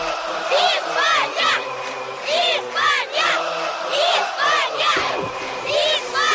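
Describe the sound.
A crowd of children shouting and cheering together, their high-pitched cries rising in repeated loud bursts over a constant background of noisy voices, recorded in Krasnodar before the World Cup had begun.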